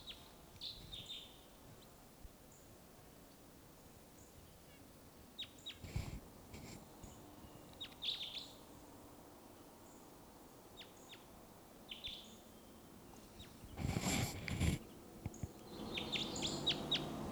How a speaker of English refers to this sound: wild bird here.